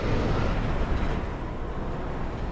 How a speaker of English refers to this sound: Here in West Long Beach, at a busy intersection on PCH, the streets are full of trucks hauling shipping containers from the ports of Long Beach and Los Angeles onto the 710 freeway.